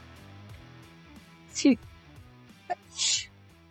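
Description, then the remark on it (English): A sneeze over a steady background of voices: a loud, sweeping intake of breath, then a brief catch and a sharp, hissy burst. “Brat Gesundheit.”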